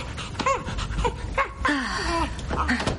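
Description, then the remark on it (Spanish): A small stray dog pants quickly and lets out several high, thin whimpers and whines, with a steady breathy rhythm between the cries. “Eres un perrito callejero buscando tu sitio.”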